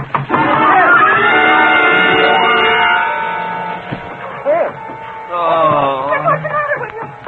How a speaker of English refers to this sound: You hear them, don't you, Chris? The muffled shouts